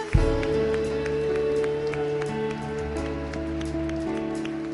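An audience gives a hand clap of praise to God in a dense, steady patter of many hands over sustained organ-like chords, the applause holding at an even, fairly loud level throughout.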